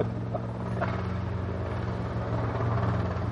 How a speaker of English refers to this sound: But they got that helicopter operation going on right now, right? You know, it can't be a pitch or something. It has to be a R-44.